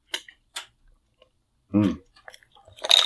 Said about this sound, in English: Excuse me, I just need a sip of water before we get going here.